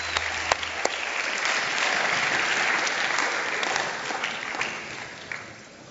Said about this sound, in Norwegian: Takk skal dere ha. Ta gir din applaus. Mens du reiser deg, så gir du din applaus.